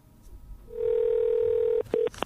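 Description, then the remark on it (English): A steady telephone dial tone hums for about a second, then breaks off into quick dialing sounds: a couple of short beeps and clicks, with no talking. “Here at Her Society, we call a lot of people.”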